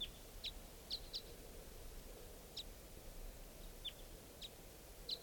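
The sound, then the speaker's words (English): Short, high bird chirps ring out every second or so at 8:08 a.m., at least four birds calling, at least one of them type 5, over a steady hiss of background noise, with no one talking. “Either type 3 or type 5 birds are here, and it's 8:08 a.m.”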